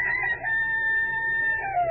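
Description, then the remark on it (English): A single long rooster crow rings out loud, a held, strained call that drops slightly in pitch at the very end, with no talking around it. “events of the world through the eyes of a rooster.”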